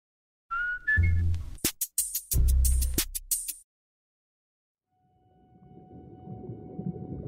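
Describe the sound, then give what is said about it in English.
Orca calls ring out underwater: rising whistles and sharp pulsed squeals with bursts of clicks, then a pause before a murky underwater hiss with a faint steady hum. “In 1984, I found the perfect place to study the orca killer whales year-round.”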